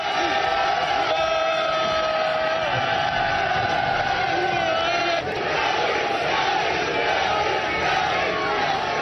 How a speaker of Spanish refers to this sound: El Liverpool llegó esta mañana, el Real Madrid lo hizo ayer por la tarde, vitoreado por un numeroso grupo de aficionados.